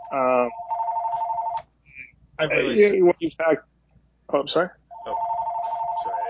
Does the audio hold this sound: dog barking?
no